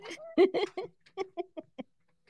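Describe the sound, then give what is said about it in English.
Chickens cluck in a quick series of short, throaty bursts, starting loud and bunched together, then spacing out into softer single clucks that fade away. “Middle-aged with chickens over here.”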